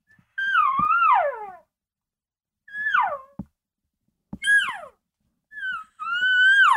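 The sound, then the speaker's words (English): Five high, nasal whining calls, a whine-type call blown through a bugle tube, each bending and sliding downward in pitch, with brief silences between them and no talking. The first and last run longest. “This is that more whine-type call.”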